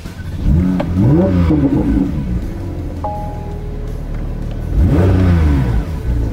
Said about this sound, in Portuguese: Motor boxer, tração traseira, 4 litros e 6 cilindros. Vamos só ouvir um pouquinho o ronco do motor?